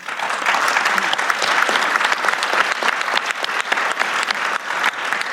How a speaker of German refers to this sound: Aber da klatscht ihr.